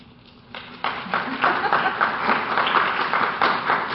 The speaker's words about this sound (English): Oh, thank you. Applause this early in the morning. That's kind of sweet. Thank you very much.